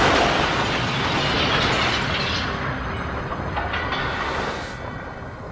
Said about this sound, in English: The screech of the oncoming train's brakes seemed to go on for an eternity. Then came the almighty thud.